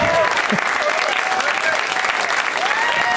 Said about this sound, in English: Finally, after all these years, I got some applause.